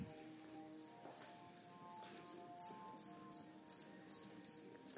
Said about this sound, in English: Do you hear that cricket? That cricket's in my lobby. It's the start of my shift. I've got 8 hours to go of that cricket. I won't kill it because crickets are good luck. But that's one noisy son of a bitch cricket.